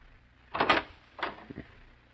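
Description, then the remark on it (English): A short metallic rattle of a door knob turning, followed by a second scraping burst and a couple of soft low thumps as the door swings open, with no one speaking. “Try the knob. Maybe you left it unlocked.”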